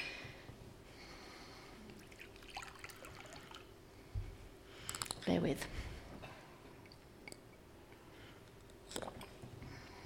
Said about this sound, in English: I'm going to have to take some water, excuse me.